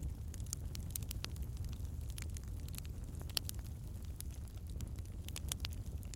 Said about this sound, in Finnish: Ja nyt kun olet tämän lempeän, rauhoittavan nuotion äärellä